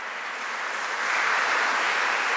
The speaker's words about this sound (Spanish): Un aplauso al Señor. ¡Oh, un aplauso grande!